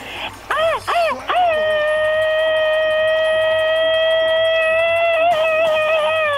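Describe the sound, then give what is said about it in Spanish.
A loud "machine-gun" style Mexican grito: a few rapid warbling bursts fired off in quick succession, then one long, high, sustained yell held for several seconds, with no talking. “Así es que una vez más en Minnesota, a Lucy, a Tere, a Freddy y a todos los que trabajan en el Quetzal Market, mándales un grito ametralladora, criatura.”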